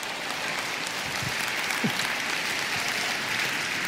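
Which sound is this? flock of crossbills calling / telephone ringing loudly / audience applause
audience applause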